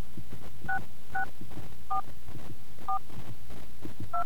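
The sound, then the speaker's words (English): Five short touch-tone keypad beeps are dialed on a phone one at a time at uneven intervals, entering an access code for a phone survey, each a clear dual-pitched tone over a low, steady background hum, with no talking. “Please enter your 6-digit Gallup access code by pressing the corresponding keys on your phone.”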